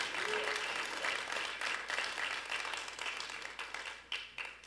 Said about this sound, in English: just a round of applause for how they serve you all.